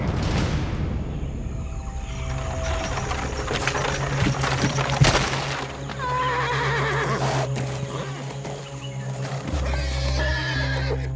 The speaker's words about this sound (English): The horses whined, their muscles strained, but they could go no further.